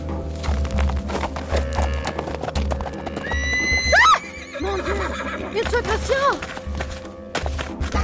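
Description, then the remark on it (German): A horse whinnies loudly several times with rising and falling calls while hooves clip-clop in a steady rhythm underneath, as its rider strikes it with a whip and rides out of the bushes. “In diesem Augenblick versetzte ich meinem Pferd einen Schlag mit der Peitsche und ritt aus dem Gebüsch heraus.”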